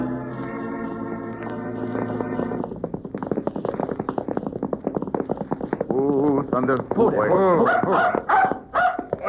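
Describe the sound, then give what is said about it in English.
A dog named Blackie barks and yelps excitedly several times, fairly loud, outside a sheriff's office, after a stretch of rhythmic clip-clopping horse hooves and a sustained musical tone at the start. “Better leave the dog out here”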